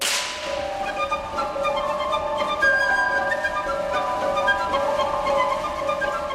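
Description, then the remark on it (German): A single dry, sharp slapstick crack, made by two pieces of wood struck together to imitate a whip, opens the passage, immediately followed by sustained bright orchestral music that carries on steadily at moderate loudness. “Natürlich ist es keine wirkliche Peitsche, die wir hier hören, sondern der Klang zweier aneinander geschlagener Hölzer.”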